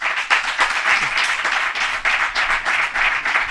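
Steady applause from an audience voting for Aramburu, dense overlapping claps forming a bright, continuous crackle at an even loudness for a few seconds, with no one speaking.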